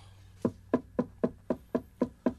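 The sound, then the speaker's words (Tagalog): A grandfather knocks eight steady times on his grandson's bedroom door, evenly spaced, each a solid hollow rap with a quick decay. No one speaks. “Yasser, buksan mo nga itong pinto ng kwarto mo. Papasukin mo ako.”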